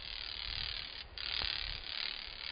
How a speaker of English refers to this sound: The vein flexure generates an audible snap, like a dog's training clicker. The grasshopper's loopy flight generates a train of snaps.